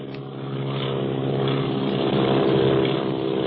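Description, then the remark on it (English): A propeller airplane engine drones steadily overhead, a continuous buzzing hum that swells slightly louder as it approaches, with no voices over it; the plane is following another plane flown by Clint and Barney. “Where did that other plane come from? Look, it's following Clint and Barney.”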